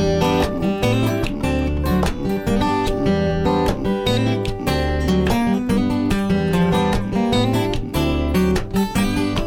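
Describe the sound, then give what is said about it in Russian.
A loud, dense music recording with sustained harmonic instruments and steady percussion hits cutting through in a regular rhythm, playing continuously without any talking. “Хороший перкашен там ее слышно.”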